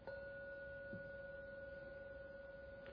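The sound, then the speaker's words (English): A meditation gong is struck to end a meditation, rung three times, and rings out in a steady, sustained mid-pitched tone with a bright overtone, a softer strike blending into the long, even resonance. “I ring the gong 3 times.”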